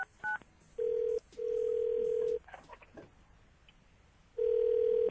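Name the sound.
telephone dialing tones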